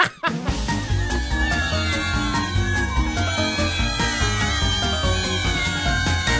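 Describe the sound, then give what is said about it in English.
Cat meows ring out repeatedly over a loud, dense musical jingle. The high, wavering cries are mixed right into the upbeat backing and play continuously with no one talking. “It's the perfect time for a cat story with those girls in the afternoon on Z102.9.”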